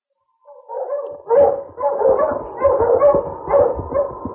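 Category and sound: animal, dog barking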